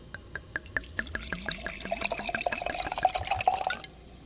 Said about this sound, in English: And now we're pouring some Viña Mayor red Spanish wine.